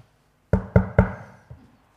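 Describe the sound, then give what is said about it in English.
A neighbour in need knocks on the door of a home: three firm, evenly spaced knocks in quick succession, followed by a softer fourth knock after a brief pause. The knocks are clear, with no voices. “A few years ago, I arrived home from work, hot, sweaty, tired, just about to sit down to dinner, on the door.”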